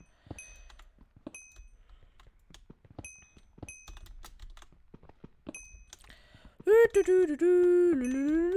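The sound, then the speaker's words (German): Fast, irregular typing on a membrane keyboard, soft muted keystrokes with a few brief high chimes, then a loud sustained tonal synth melody takes over for the last couple of seconds. “Aber von der Lautstärke her sind es halt einfach Membran-Switches, kann man nichts gegen machen.”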